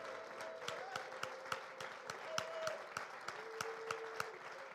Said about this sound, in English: Now let's give him a hand clap of praise like we believe it.